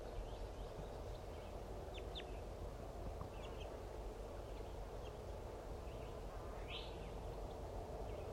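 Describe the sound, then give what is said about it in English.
A few brief, faint chittering calls from a pair of birds, a female going down joined by a chittering male, pop out at irregular moments over a loud, steady rushing background noise; no one speaks. “There's a female going down. Joined by a chittering male. Pair birds going down.”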